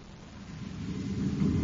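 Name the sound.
radio interference static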